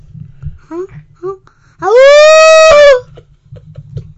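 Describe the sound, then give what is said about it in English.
A child's voice imitates a howl: one loud, sustained, high wavering note lasting about a second, rising then holding steady, preceded by a few soft, short vocal murmurs. “Without putting the mic by your face, you want to show them how you were howling the other day?”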